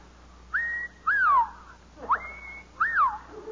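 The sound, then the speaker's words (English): A person whistles the mating call of the pink bosom warbler: four clear, sliding notes, some rising and some falling, in an uneven rhythm. The whistling is fairly loud, with no talking. “When I first saw them, I whistled the mating call of the pink bosom warbler to see if the mother bird would respond.”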